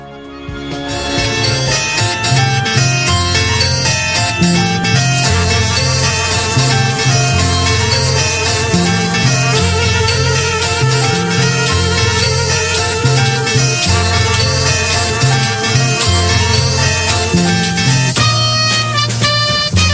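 An Italian pop song from the late sixties plays at full, steady volume for the whole stretch, with a driving bass line, bright layered instruments and a melodic lead running throughout.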